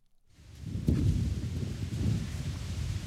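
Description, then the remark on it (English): A dense, continuous rustle of thousands of white balloons, bigger than basketballs, packed into an art museum gallery as an exhibit, rubbing together, with a low rumbling undertone like distant thunder and a brief squeak near the start; no one speaks. “I'm surrounded on all sides and overhead by white balloons bigger than basketballs.”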